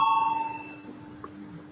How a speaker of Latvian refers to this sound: Lūdzu zvanu. Balsosim par 12. juridiskā biroja priekšlikumu. Lūdzu, balsosim.